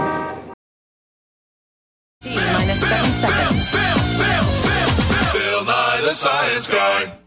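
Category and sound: vehicle, car horns honking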